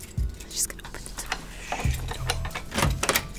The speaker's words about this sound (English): Oh, give me your keys. Let me just unlock my door here. Then you can take my keys.